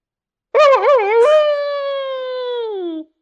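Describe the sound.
A person's voice imitates a wolf howl: a wavering, yodel-like start that jumps up, then settles into one long, steady tone sliding slowly downward before cutting off, loud and alone.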